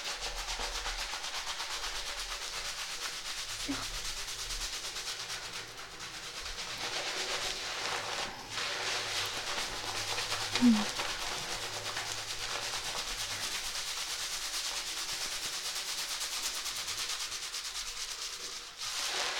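Steady, wet rubbing and scrubbing of shampoo lather being worked into hair, a continuous soft squishing hiss with no talking, holding at an even level for the whole stretch.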